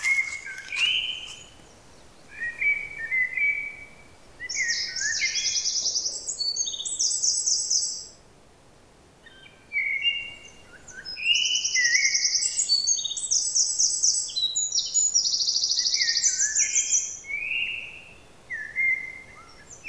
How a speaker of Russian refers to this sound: Послушайте, как поет птица. Адам записал ее в одну из весенних ночей.